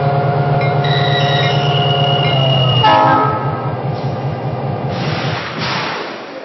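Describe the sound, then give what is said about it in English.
A passenger train, train number 32 on track 2, sounds a loud, sustained horn for about three seconds, then fades into a steady rumble of rolling cars and clattering rails. “St. Louis on track number 2, train number 32, the St. Louis.”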